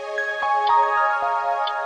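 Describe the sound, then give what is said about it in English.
A mechanical clock ticks steadily in quick, regular beats, the small clicks sitting over a sustained, ringing tonal drone. No one speaks. “If you have a mechanical watch or clock, you can hear it ticking off the seconds, 86,400 of them every day.”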